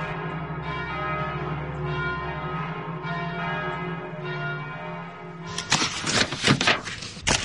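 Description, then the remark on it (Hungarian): Massive church bells of Rome ring in a dense, overlapping peal, their deep tones booming and sustained, then a burst of loud clanging strokes crowds in near the end. No voices are heard. “Riad galambok rebbennek fel a Pantheon kupolájáról, esetlen szárnyalással, ebben a mennydörgésszerű, hatalmas, félelmetes és nagyszerű harangozásban.”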